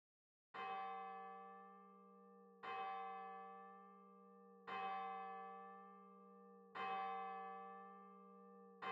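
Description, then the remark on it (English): A church bell tolls steadily, struck about every two seconds, each deep, resonant stroke ringing out and lingering before the next. Four full strikes sound alone, with a fifth just beginning. “Be aware of your need and return to this whenever you hear the bell, becoming more aware again of your desire.”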